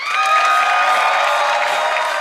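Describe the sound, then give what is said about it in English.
The studio audience of Conan O'Brien's show cheers loudly and steadily as he introduces a band, a dense roar of many voices with whoops and shouts layered on top, sustained at full volume throughout. “And the crowd's reaction is a taste of what they've been hearing from fans and critics alike”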